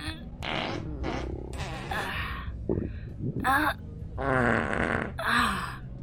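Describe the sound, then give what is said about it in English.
A string of wet, sputtering fart-like noises, several bursts in a row, fairly loud, apparently made with the mouth as vocal imitations rather than real flatulence. “It might make my farts that much juicier.”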